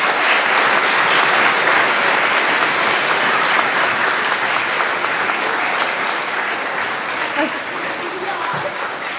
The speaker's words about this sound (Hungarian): Az iskola legjobb tanulmányi átlagot elérő osztálya ebben az évben a negyedik osztály lett, ők voltak a legszorgalmasabbak is. Megdicsérlek benneteket, és a többiek tapssal ismerjék el a teljesítményüket.